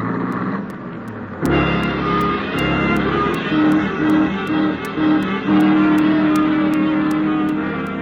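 A car engine roars to life and revs hard as the driver flees a police officer, pulling away at speed with a loud, sustained rising drone and a steady ticking rhythm underneath, continuous throughout.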